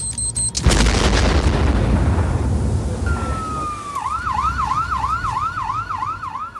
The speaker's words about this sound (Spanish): Es muy triste que unos niños se acostumbren a eso, a mirar los bajos de un coche para que no te revienten. Sonó una explosión fuerte y ha sido un atentado.